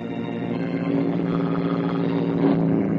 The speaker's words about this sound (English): A car approaches. Pete says, Hey, here comes a car. Maybe we can hitch a ride to that farm.